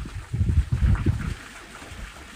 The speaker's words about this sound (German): Für die nächsten Momente lass dich einfach von dem Klang des Wassers neben mir, des Windes und meiner Stimme in die Entspannung begleiten.